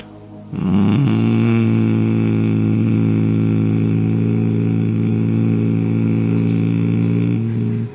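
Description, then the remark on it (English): A human voice hums one low, steady, buzzing note for about seven seconds with the mouth closed after breathing in, imitating a bee. The drone holds even and loud, with no words spoken. “You breathe in, and while closing your mouth, you make the low sound of the bee.”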